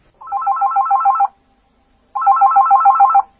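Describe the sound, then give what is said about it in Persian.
A telephone rings for an incoming call from someone phoning in a question, in two loud electronic bursts, each about a second long with a rapid warbling trill, separated by a pause of silence. No one speaks. “استاد اگه موافق باشید یه سوال تلفنی هست که با هم بشنویم و در خدمت شما باشیم.”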